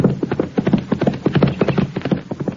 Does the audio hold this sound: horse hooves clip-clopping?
yes